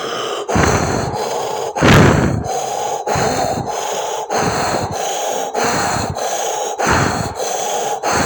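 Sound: forceful rhythmic breathing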